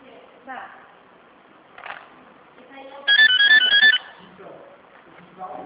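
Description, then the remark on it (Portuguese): A telephone rings with a bright, warbling electronic ringtone lasting about a second, louder than the surrounding sounds, while people talk quietly before and after. “Essa treva desse telefone tá aqui.”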